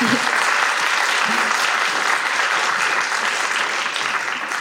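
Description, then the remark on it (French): An audience claps steadily throughout, a dense, sustained wash of applause from many hands that stays loud and even before easing slightly at the end, applauding at an evening event to thank the people who work behind the scenes. “Donc vraiment je tiens à ce qu'on les remercie, qu'on les applaudisse particulièrement.”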